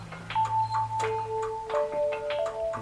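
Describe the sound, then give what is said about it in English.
A chiming clock ticks steadily, its sharp clicks repeating at a regular pace over a faint, constant electrical hum, with no voices present. “Do you want me to stop the clock?”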